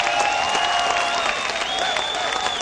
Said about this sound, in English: Give yourself a round of applause, man. Really. Come on. You made it right.